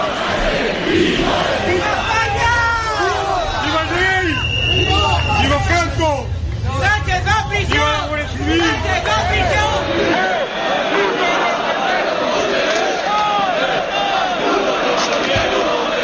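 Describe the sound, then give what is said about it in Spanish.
A dense protest crowd outside the PSOE headquarters on Calle Ferraz, on a second evening of unrest, shouts and chants insults against the acting prime minister, the Socialist Party, Catalonia and Carles Puigdemont. Many voices overlap in loud rising and falling cries over a low rumbling roar, easing after about ten seconds into a steadier babble. “Son solo algunos de los insultos que se pueden escuchar en contra del presidente del gobierno en funciones, en contra del Partido Socialista, también de Cataluña, de Carles Puigdemont.”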